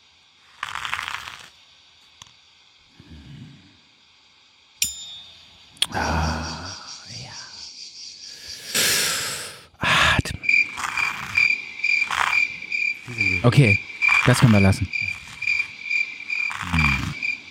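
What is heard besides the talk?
cricket chirping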